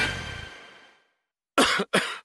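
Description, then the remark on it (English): Two sharp, loud coughs in quick succession, alone after a fading tail of sound and a brief silence. “Now, anywhere cough and cold strikes, Pure Robitussin Relief is ready to go anywhere you go.”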